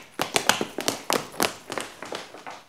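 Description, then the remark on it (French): Quick running footsteps of thieves slap along a hard floor in hotel corridors in a steady rapid rhythm, about a dozen sharp impacts that gradually fade slightly as they move away. “Pendant ce temps, les voleurs courent dans les couloirs de l'hôtel.”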